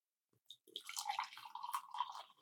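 Fresh coffee bubbling and gurgling in a French press as it is pressed down, a busy, bright burble of small pops and trickles that starts after a brief quiet and continues steadily, moderately loud, with no talking.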